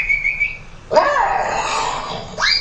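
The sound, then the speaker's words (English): A dog whimpers: a thin high whine, then a longer wavering whimpering cry, and a short rising yelp at the end. Nobody speaks. “Chewed the paddle up a little, didn't you?”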